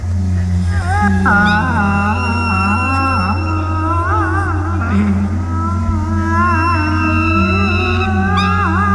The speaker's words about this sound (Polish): Mamy dwa miękkie puszki, jeden jest czarny, drugi biały i jak się je pchnie, to one wydają dźwięk.